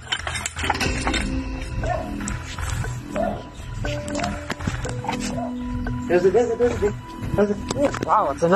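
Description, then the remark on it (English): Dogs bark and growl in loud, repeated bursts, growing more frantic toward the end, over a dense, noisy background with voices, as a snake is searched for in an area bordering Roosevelt Nature Reserve. “Sorry about your dogs.”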